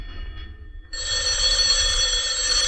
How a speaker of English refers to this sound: Telephone's ringing